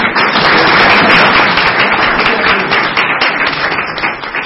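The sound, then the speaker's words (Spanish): Loud, sustained applause from an audience at a question session, for the English translator, a dense crackle of many hands clapping at once that holds steady for a few seconds before slowly easing off. “Y la última pregunta, un aplauso para el traductor de inglés.”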